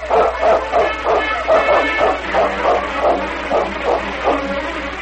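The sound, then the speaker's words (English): A pack of sled dogs, Sergeant Preston's dog team driven onward through the snow at a fast, steady pace, barks steadily and excitedly, their overlapping yips and bow-wows coming in a quick, continuous rhythm, fairly loud, with no one speaking. “Nevertheless, Preston pushed on, mile after mile, driving his dog team onward at a fast and steady pace.”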